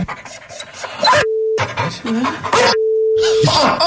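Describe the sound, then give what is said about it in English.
A dog barks and pants in loud bursts, broken up by two steady electronic beep tones, with a voice-like quality mixed into the noisy stretches. “What are they doing while the dog is barking?”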